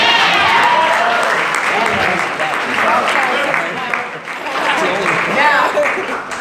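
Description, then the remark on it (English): A crowd applauds loudly and steadily for several seconds for the first baptism in the Bronx campus ministry, a dense wash of clapping with scattered voices and cheers mixed in, dipping briefly before swelling again. “Yeah, we could clap for that.”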